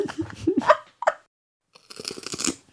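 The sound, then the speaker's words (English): A loud crunch of someone biting into crisp food, a crackly burst of brittle snapping that lasts under a second after a short pause, following a few brief mouth sounds. “That is a good crunch.”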